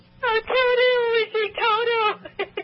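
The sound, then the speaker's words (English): A man sobs and wails in two long, quavering bursts with strong harmonics, followed by a few short whimpering catches, loud and alone with no speech. “He's crying now. Can you hear his sobbing voice?”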